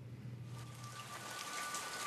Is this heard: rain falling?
yes